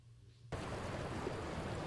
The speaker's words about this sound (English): Oh, there's the ocean.